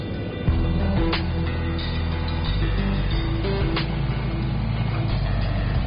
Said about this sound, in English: The DC-4 is back with the last 20,000 pounds.